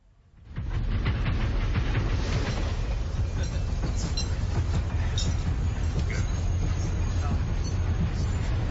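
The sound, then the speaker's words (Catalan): A train rolls steadily along the rails, its deep rumble carrying a rhythmic clickety-clack of wheels over track joints. It starts abruptly and stays loud and constant throughout. “un llegendari tren que travessa Europa, queda retingut a causa d'una tempesta de neu”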